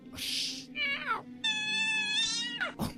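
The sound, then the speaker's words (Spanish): A black cat meows on a street on a summer night, a short bending cry followed by a long, drawn-out wail that sweeps upward, with a breathy hiss just before; no one talks. “Y se encontró un gato negro.”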